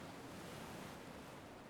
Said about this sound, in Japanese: 物心つく前から、お母さんのお腹の中にいる時からずっと波音を聞いてて、だからこうやってると すごく落ち着くのかな。